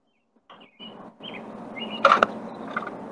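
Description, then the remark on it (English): A bird chirps in short, bright bursts over a low, noisy background, with a sharper cluster of calls near the end. The sound is moderately loud, and no one speaks. “I hear a bird.”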